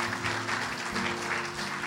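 An audience at Sun Life Church applauds after a prayer, dense, steady clapping that holds at an even loudness throughout, with no voices breaking through the crowd's continuous patter.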